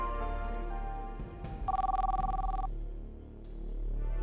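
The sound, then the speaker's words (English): A telephone rings once in a short, warbling burst lasting about a second, clear, set against a steady low background drone with no one speaking; a call to a cell phone. “Nadine spoke with McLean through his cell phone.”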